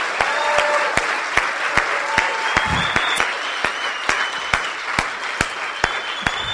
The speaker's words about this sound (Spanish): Así que vamos a darle un fuerte aplauso, así como lo dieron al principio, que estábamos ahí probando, a todo su equipo de apoyo.